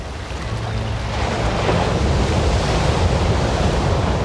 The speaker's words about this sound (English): The mesmerizing sounds of the Pacific at Big Sur. If you listen closely, you'll hear some barking sea lions as well.